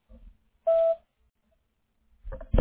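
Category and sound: signal or alarm, voicemail answering machine beep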